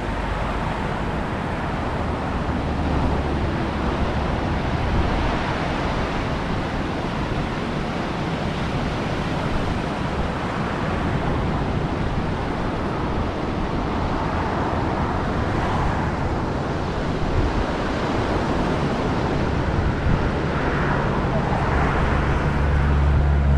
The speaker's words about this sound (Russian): Да, друзья, мы недалеко отъехали от того места, где только что снимали. Ну вот, пожалуйста, океан.